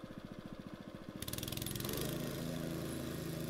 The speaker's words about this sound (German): Und meine Nase sagt mir, hier wird jetzt gebohrt. Aufgepasst!